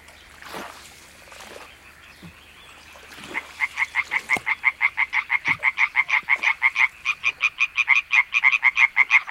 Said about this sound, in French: Des grenouilles, des chants d'oiseaux.